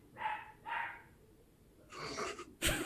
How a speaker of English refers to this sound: Perfectly timed dog bark.